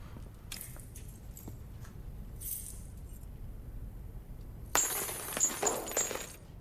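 Metallic keys jingle and clink for a couple of seconds, bright and fairly loud, after a stretch of soft rustling and quiet handling noise.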